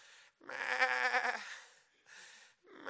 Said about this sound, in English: Meh. Every time he come near, my soul cringe. He'd hear that cry. Meh. Yeah, sheep, yeah.